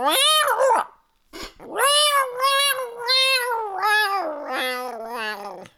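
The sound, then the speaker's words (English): A voice imitates a cat, making drawn-out wavering meows and low growly yowls in a continuous, fairly loud stretch with one brief pause near the start. “And then Coda said something. It went like...”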